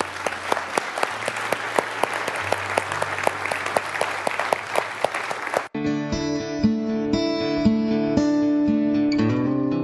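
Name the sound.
audience applauding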